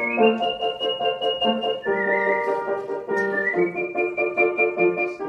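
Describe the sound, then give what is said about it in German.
A person whistles a flowing, sustained Mozart aria at a book presentation in the Mozarthaus, clear, over steady instrumental accompaniment, with long held notes and a few pitch shifts. “pfeift bei der Buchpräsentation Mozart-Arien.”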